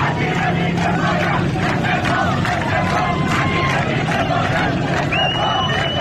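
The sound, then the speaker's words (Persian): A crowd of protesters in Shahr-e Rey, Iran, chanting slogans despite police cars at the scene, calling the minister incompetent and demanding he resign; loud and continuous, with rhythmic bursts of shouting over a dense hubbub of voices and a few high whistle-like tones. “در شهر ری نیز مردم معترض با وجود خودروهای پلیس در محل شعار سر دادند: وزیر بیکفایت، استعفا، استعفا.”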